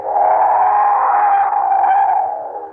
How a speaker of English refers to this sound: Oh, that train whistle, it's been driving me bats all morning. I must be hearing things. There aren't that many trains a month through Dover Ridge.